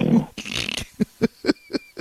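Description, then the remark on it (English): A caller who fell asleep on the phone during a show snores over the line: a rough, noisy snort followed by five quick, evenly spaced grunting pulses with a coarse, pig-like low rasp, moderately loud, with no talking. “But I remember it was the latest in our collection, because it seems like when people fall asleep and snore on the phone, at least for our show, they generally sound like barnyard animals of some sort.”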